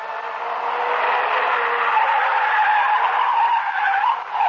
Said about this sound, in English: the car began to circle wildly. I grabbed the wheel in the nick of time.